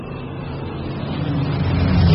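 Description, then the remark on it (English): The deep, steady drone of Spitfires' Rolls-Royce Merlin engines, a rumbling low roar that swells gradually louder over a couple of seconds, with no voices. “Rolls-Royce Merlin engines. Sweetest sound you could hear out here.”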